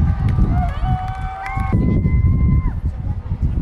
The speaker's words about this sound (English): These cheers are because the Pope is being seen on the Jumbotron descending the steps of the plane. He's in Philadelphia. He's on the ground.